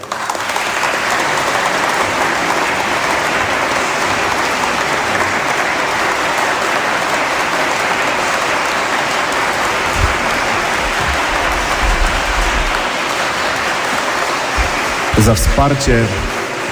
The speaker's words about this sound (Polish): Myślę, że dla kleryków, dla księdza rektora i ogromne, serdeczne brawa.